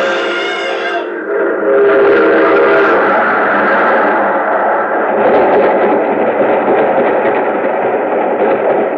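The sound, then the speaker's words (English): A train horn blares briefly, then a loud train roars past with a continuous heavy rumble and clatter that fills the rest of the moment, with no voices. “There's a train coming.”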